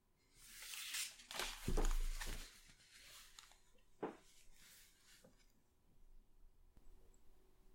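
Scattered light clinks and clatters of cutlery against dishes, with a few sharper knocks early on, then quieter handling noises and soft breathing.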